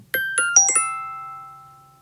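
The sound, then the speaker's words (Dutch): A phone's old notification tone plays alone: five quick bright bell-like notes in a short melodic run, the last ones tumbling together and ringing out to a slow fade. “Kijk, dat is onze oude meldingentoon, denk ik.”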